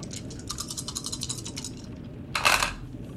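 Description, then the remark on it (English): Five dice rattle in quick clicking bursts, then a louder clattering tumble as they are cast and settle, with no voices over a low background hum. “I'd like you to roll to see what you find in the basement. I believe that's 5 dice now, since there was a 1.”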